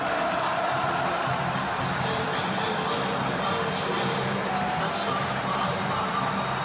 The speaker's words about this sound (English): recording that wonderful crowd reaction at the end.